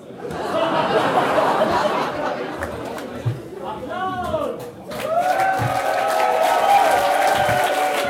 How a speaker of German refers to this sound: Applaus!